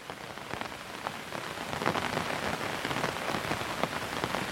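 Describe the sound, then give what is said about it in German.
Steady rain falls close by, a dense soft hiss with individual drops pattering and tapping on a nearby surface, fairly even in loudness throughout, with no voices. “Hier klingt der Regen näher, persönlicher, wie ein beruhigendes Flüstern direkt neben deinem Ohr.”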